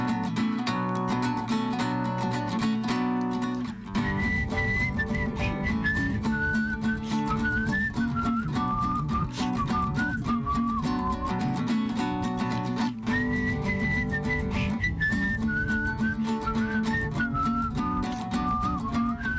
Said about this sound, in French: Un peu, ouais, c'est une musique d'inspiration entre la cumbia et la musique des Andes. Ça fait un peu ce que je siffle là, c'est un peu un air traditionnel.